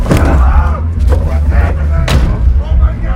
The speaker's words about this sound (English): Ray forces the man in the back and closes the doors.